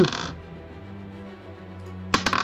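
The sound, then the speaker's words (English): Dice clatter briefly at the end, a quick cluster of sharp clicks against a surface, following a stretch of quiet low hum and a short rustle at the start. “Can you hear the dice?”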